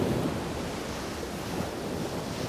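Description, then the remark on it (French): Steady roar of wind and rough water, with waves washing and slapping continuously against a boat hull, loud throughout, no voices. “Oh, les vagues, ils font clap, clap, clap, clap sur le bateau.”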